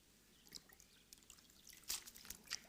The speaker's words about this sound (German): Und wenn man jetzt so einen Schwamm in Wasser taucht, dann verbinden sich die Wassermoleküle mit diesen Kapillaren zu einer Einheit und der Schwamm ist voll Wasser.